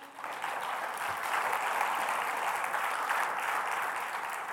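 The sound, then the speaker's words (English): Sustained audience applause at a church service at Restoration Fellowship, a dense steady wash of many hands clapping at a fairly even loudness for several seconds, with no voices standing out. “Can we give Justin a round of applause?”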